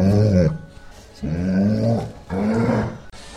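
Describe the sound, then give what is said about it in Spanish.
A dog named Lupi growls in three long, rumbling bursts separated by short pauses, fairly loud, each growl rising and holding with a harmonic, almost roaring tone, as a message for the radio station FM Los Molinos. “FM Los Molinos, la radio que escucha a mi perro.”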